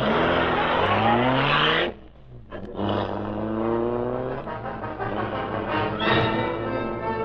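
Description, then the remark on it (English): The powerful engine of the Black Beauty, the Green Hornet's streamlined car, roars loudly, revving hard with rising pitch, dropping off for a moment, then surging again as the car speeds away into the darkness. No voices. “Britt Reed pressed a button. The great car roared into life.”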